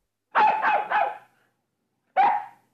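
dog barking

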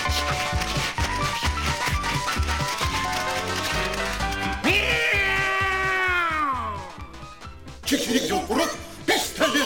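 cat meowing

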